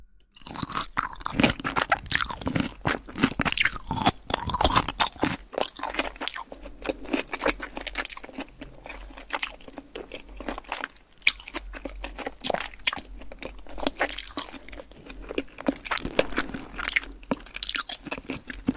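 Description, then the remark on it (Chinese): Steady, repeated chewing with sharp crunches and moist, squishy bites while eating a juicy "exploding egg" dish, loud and continuous for the whole stretch with no talking, the crisp bursts coming in an uneven rhythm. “废话少说，继续吃。”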